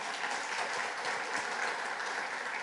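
An audience claps for a married couple in a steady, dense wash of applause that holds at an even level for a few seconds, with no voices over it.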